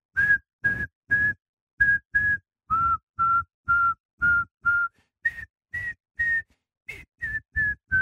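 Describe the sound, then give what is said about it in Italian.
Someone whistles a song melody, a string of about sixteen short, breathy notes grouped into phrases, the pitch stepping down and back up, with no talking. “Senti, ma la devi fischiettare per forza o puoi pure fare un col fischietto”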